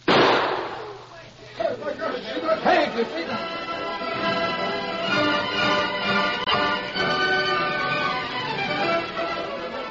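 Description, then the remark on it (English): A single sharp gunshot cracks loudly at the very start, shooting a gun out of a man's hand, its burst quickly fading, followed by several seconds of people talking. “Sam shotgun right out of his hand”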